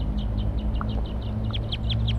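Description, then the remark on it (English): A rapid series of high, chirping calls from wild birds on a perch repeats steadily over a low, constant background rumble, the notes growing slightly louder and more insistent toward the end. “Wild birds calling from a perch.”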